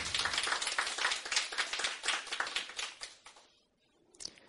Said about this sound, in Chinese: 我们再一次鼓掌